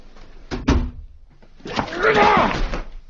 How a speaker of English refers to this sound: Please close the door.